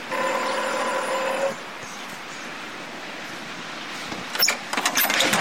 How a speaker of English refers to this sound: Okay, walking up. I'll ring the buzzer.